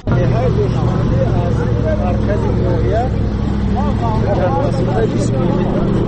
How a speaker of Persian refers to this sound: حالا همراه با گروه ساکنان این روستاها در ماشین کلان باربر حرکت داریم و این مردان بار میکشنند به خانه های خود تا زندگی خودشان را تأمین کنند.